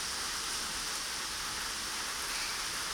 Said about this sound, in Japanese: 嫌になっちゃうよね、この夕立。